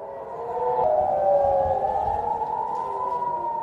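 Air raid sirens wail across the Israeli city of Haifa on a Saturday as rockets fired from Lebanon are intercepted by Israel's Iron Dome defences; long sustained tones overlap and slowly rise and fall, loud and steady throughout with an echoing quality and no one speaking.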